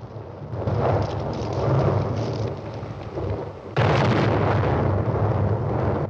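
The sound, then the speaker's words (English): Loud explosions erupt around a rider on horseback, rolling into a continuous heavy rumble, then a fresh blast hits suddenly partway through and keeps roaring to the end, with no voices. “Explosions erupt around him as he tries to catch up with his crew.”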